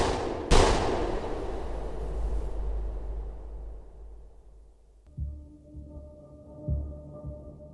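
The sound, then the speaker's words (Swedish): A single sharp pistol shot bangs out inside a garage on Lötsjövägen, trailing a long reverberant decay, followed later by a low, throbbing hum. “Några minuter efter att kompisgänget försvunnit ur övervakningskamerans blickfång hörs smällar ifrån ett garage på Lötsjövägen.”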